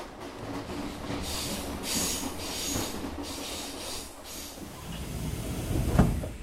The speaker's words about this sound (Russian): На электричке, которая ходит раз в сутки, мы приезжаем из Бескамжи в Берекчуль.